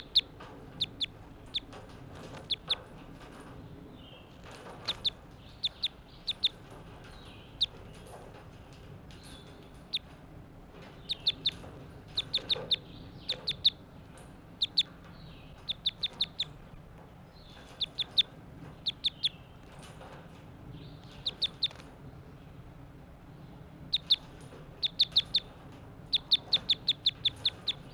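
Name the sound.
bird calling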